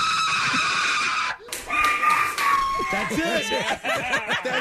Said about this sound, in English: We have the clips back to back of …, his scream, and then the spider.